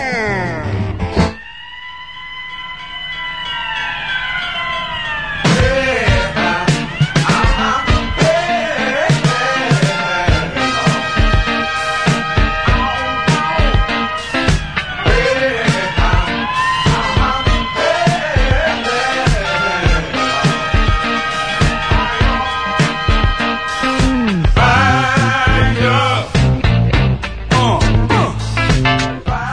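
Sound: police car siren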